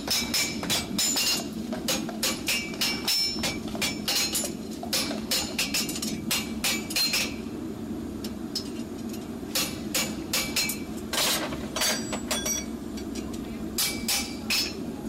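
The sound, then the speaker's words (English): Rapid, ringing hammer blows on an anvil as a farrier shapes a red-hot steel horseshoe from the forge to fit a horse's foot, coming in bursts of fast metallic strikes with short pauses, over a steady low rumble of the forge. “The farrier then puts the new shoes in a forge where the steel becomes red hot and can then be shaped and customised to the horse's foot using hammer and anvil.”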